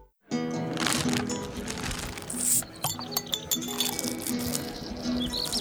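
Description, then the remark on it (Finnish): Glasses clink together in a toast, a run of bright, ringing chinks scattered over a few seconds, with one clear sustained ring midway, all above a steady low background hum. “Kippis ja Estrella, kimpassa ilon tähden.”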